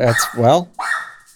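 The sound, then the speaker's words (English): Loud barking from dogs: two quick barks, then a higher, drawn-out whimpering whine trailing off, with no talking. “It's my dogs are really mad about AGDQ ending as well.”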